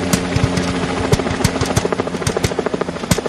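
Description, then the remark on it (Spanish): A processed sound effect made with a banknote imitating a helicopter descending: a rotor chopping in a steady, rapid rhythm over a droning engine hum, loud and continuous with no voices. “Este es cuando el helicóptero baja.”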